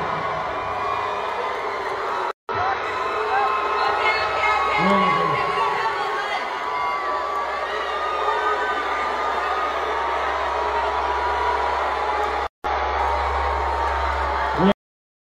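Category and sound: crowd, crowd booing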